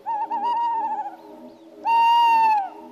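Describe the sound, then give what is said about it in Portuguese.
A tawny owl, apparently a male, hoots in two long, wavering calls, the second louder and clearer, against a quiet night background. “Estamos a desfrutar apenas do pio, que se torna cada vez mais evidente.”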